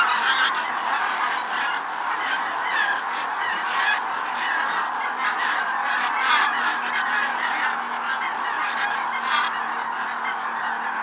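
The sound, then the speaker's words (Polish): A large flock of migrating geese flying in skeins over Lipówka, calling continuously, many overlapping honks forming a dense, steady chorus with no pauses, moderately loud and seemingly passing overhead. “Nad Lipówką można zobaczyć nieraz także klucze migrujących gęsi.”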